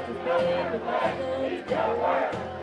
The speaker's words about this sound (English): Even there, the protesters kept up their chanting, drowning out a country singer kicking off the festivities with an onstage performance.